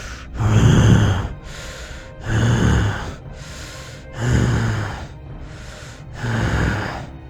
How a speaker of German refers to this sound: Du hörst in einiger Entfernung vor dir eine Art Schnauben.